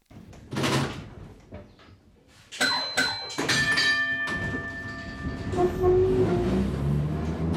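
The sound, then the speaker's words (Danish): An old tram, Ib Lunding's functionalist-style design, rumbles along its rails, with clattering knocks at the start and bright metallic ringing and squealing tones rising over a steady rolling drone. “Det var de flotteste, Min faste plads var lige til venstre for vognstyren.”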